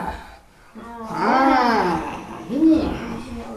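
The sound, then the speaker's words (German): In a choir warm-up exercise, children's voices imitate hissing big cats, letting out two drawn-out growling roars that rise and fall in pitch, the second one shorter, with breathy hissing at the edges. “Sie verwandeln sich zum Beispiel in fauchende Raubkatzen.”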